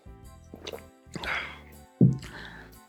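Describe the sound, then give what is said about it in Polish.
Several wet gulps and swallows of water in an uneven rhythm, with a soft liquid squish and a louder low gulp near the end, with no talking over them. “I teraz ty zrobiłaś gulga taktycznego, ja też zrobię.”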